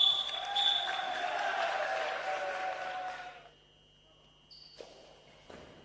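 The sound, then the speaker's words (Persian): A goalball ball with bells jingles and rolls amid noisy, echoing surroundings with murmuring voices during a game played with eyes fully covered on an 18 by 9 metre court, then after a quiet pause a couple of sharp bounces thud. “تو زمین بازی میکنن، سه نفرم حریف دارن، یه توپ زنگوله دار دارن، تا 100% چشاشون رو میبندن.”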